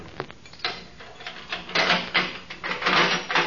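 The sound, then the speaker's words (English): Keys jangle and rattle, followed by a run of metallic clanks and scraping clicks as a heavy jail cell door lock is worked open, with no voices. “Now, step up close to the bar so I can reach those keys.”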